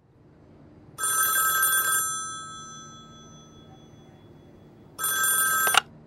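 A telephone bell rings twice, each bright jangling burst lasting about a second, with the first ring's tone lingering and fading during a quiet gap. Clear, with no voices.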